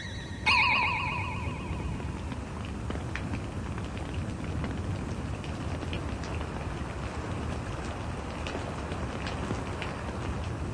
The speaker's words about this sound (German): Es regnet. Was heißt es regnet? Es gießt in Strömen. So einen Regen hat es ja schon seit Jahren nicht mehr gegeben.